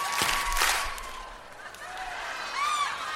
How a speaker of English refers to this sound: Going to clap our hands three times.